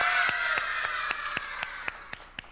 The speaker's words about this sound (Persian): حالا که اینقدر بانشاطین و حسابی پر انرژی دارین جواب منو میدین، یه دست هورایی بلند.